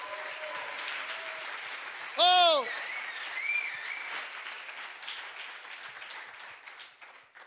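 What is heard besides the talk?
audience applauding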